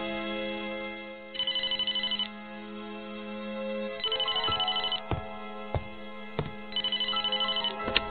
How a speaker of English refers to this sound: when the phone rings and she runs over to answer it.